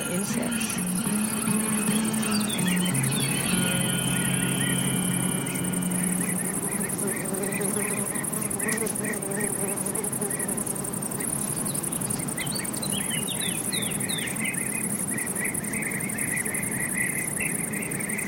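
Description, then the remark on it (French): Wind moving through willow branches in Yosemite Valley, USA, as a soft breathy rush, with a steady high insect drone throughout and scattered bird chirps and trills early and again near the end. “Écoutez le vent, les oiseaux et les petits insectes.”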